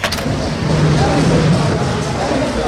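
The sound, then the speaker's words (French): A steady wash of applause, a dense crackling roar of many hands clapping, greets General de Gaulle's arrival under the colonnades of the Palais Royal in Paris, holding at an even loudness throughout, with a faint murmur of voices underneath. “Les applaudissements que vous entendez viennent de saluer l'arrivée du général de Gaulle qui pénètre sous les colonnades du Palais Royal.”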